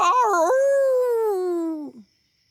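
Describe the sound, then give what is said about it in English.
A person imitates a wolf with one long howl that wavers at first, then holds and slowly slides downward for about two seconds before breaking off. No talking. “What are you doing? Are you howling at me?”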